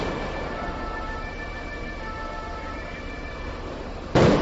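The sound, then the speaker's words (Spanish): A steady wash of crowd noise with faint whining tones runs throughout a street protest in the European quarter of Brussels, where some protesters throw paving stones and flares at police, then a single loud, sharp firecracker burst erupts right at the end. “La protesta ha llegado a mediodía al barrio europeo, donde unos pocos han comenzado a lanzar adoquines y bengalas contra la policía.”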